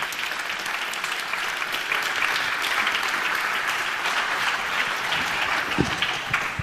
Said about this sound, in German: Bitte komm zu uns herauf mit einem Applaus.